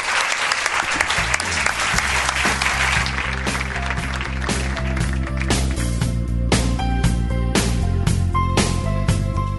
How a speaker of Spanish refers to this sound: Pido un aplauso para ellos. Muchas gracias.